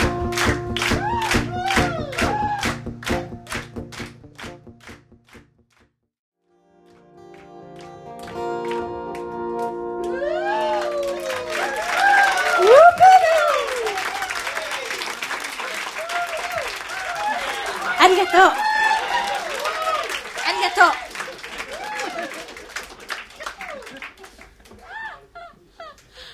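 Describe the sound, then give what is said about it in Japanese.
Steady rhythmic hand clapping from an audience keeps time with music for the first few seconds, then stops; afterward a lively mix of voices and tones follows. “みんな手拍子して、お願い手拍子して。”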